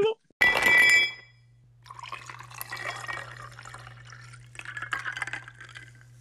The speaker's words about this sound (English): I got to pour another cocktail. We're not going to have a sound effect for that.